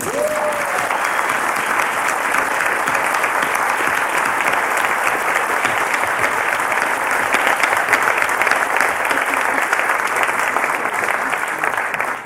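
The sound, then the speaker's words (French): An audience in a hall applauds a school principal who is present in the room, clapping steadily for about twelve seconds, a dense, even wash of many hands clapping at once, loud and sustained without a break. “Et comme elle est dans cette salle, je vous propose qu'on l'applaudisse.”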